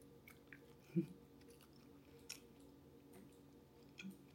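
Slow, steady chewing of chewy, smoked sockeye salmon jerky strips, soft and moist, with a few louder squishy bites standing out about a second apart and again near the end, and no talking.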